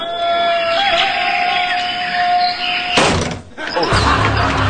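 A game show whammy animation sound effect: a steady whining tone holds for a few seconds, then a loud crashing slam bursts in, cuts out briefly, and gives way to noisy clattering.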